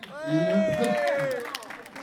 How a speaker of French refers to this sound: On applaudit